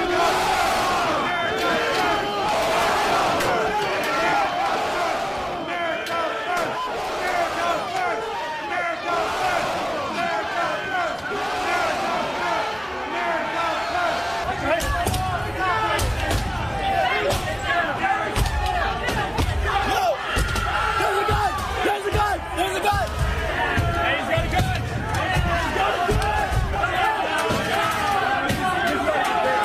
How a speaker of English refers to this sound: The mob turning on police and spraying them with mace. This officer was trapped, pinned by a metal door and screaming for help that didn't come.